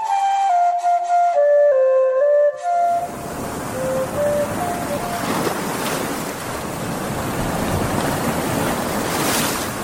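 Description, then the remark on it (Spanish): A few seconds of soft, wavering melodic tones give way to a steady, dense hiss of rain falling on the ground, which continues evenly and fairly loud to the end. “El murmullo de la lluvia sobre la tierra marca el fin de nuestro viaje de hoy”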